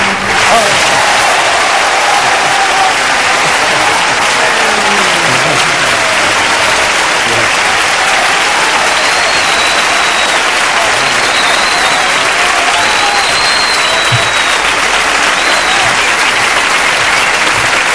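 Sustained, loud applause from a large audience fills the whole stretch, a dense steady wash of clapping with faint cheers and whistles rising now and then.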